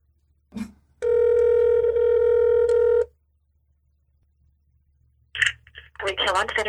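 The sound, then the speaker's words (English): A phone call from a man to his mother rings over a speakerphone: one steady, buzzy ring tone lasting about two seconds, then a pause, a faint click, and a person starts talking. “I think he's looking for his mother's phone number. Should I put it on speaker?”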